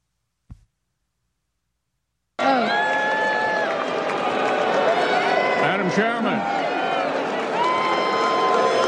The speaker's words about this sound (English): Did you see the response from the crowd to Mitch McConnell in clip 29?